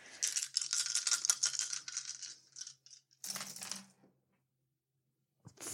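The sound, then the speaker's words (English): Several dice rattle together in a sustained clatter for a few seconds, then tumble out in a short burst of clicks before falling silent, with one light tap at the end. The dice are a pool of three yellow, one blue, two purple and one black dice. No voices. “So, I am going to say that the difficulty here is going to be 2 purple dice and 1 black die.”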